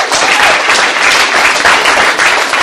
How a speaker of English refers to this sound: So everybody give yourselves a round of applause.